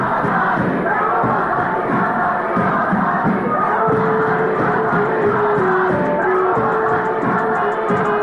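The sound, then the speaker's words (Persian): A large crowd shouts an Iranian revolutionary slogan, including the word "azadi" (freedom), in unison, a dense, steady roar of many voices with rhythmic chanted pulses rising and falling throughout. “آزادی، کلمه سوم در شعار انقلابی ایران، کلمه پنج حرفی و ساده که میلیاردها بار از گلوی میلیونها انسان در طول تاریخ فریاد زده شده.”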